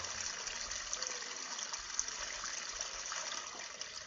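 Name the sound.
flowing creek water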